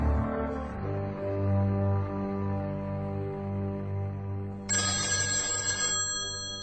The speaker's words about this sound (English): Herb, the phone. Herb, get that.